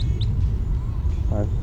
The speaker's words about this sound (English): Goldfinch flying over.